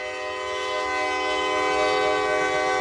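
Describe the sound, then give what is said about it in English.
A freight train's horn blares in a long, steady, harmonic blast, loud and sustained throughout, with the low rumble of rail cars rolling underneath in Anniston, Alabama, and no talking. “Freight trains delivered Anniston's cargo to Birmingham and Atlanta.”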